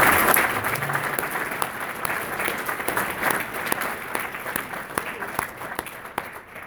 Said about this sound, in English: If we have any veterans who have served in uniformed service, served your nation, could you please stand so we can recognize and honor you? Would you please stand? Let's give these gentlemen and ladies a large round of applause.